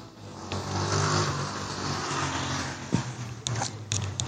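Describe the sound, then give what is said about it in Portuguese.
A steady, droning car engine hums throughout from inside the vehicle, with low rumble and a few brief knocks and rattles near the end, no one speaking. “Então você escuta barulho de carro, você escuta diversos barulhos.”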